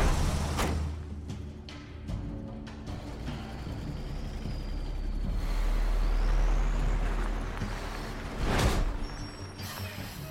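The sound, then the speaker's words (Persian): A heavy truck rumbles in with a low engine drone and a rising, whining squeal, then a sharp burst of air-brake hiss as it stops, followed by idling. “از کامیون بیا بیرون، بیا بیرون.”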